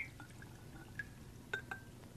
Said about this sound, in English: It's brine. It's very, very hot. So I'm going to get myself a pot holder. What's the brine made out of? It's made out of vinegar and water and salt. I just get my cup in here and pour it.